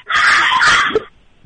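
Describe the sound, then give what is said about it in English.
A loud, harsh dog bark bursts out and holds for about a second, sounding slightly tinny as it is heard over a phone held up to the barking dogs, then drops away to near quiet. “They just barked so loud.”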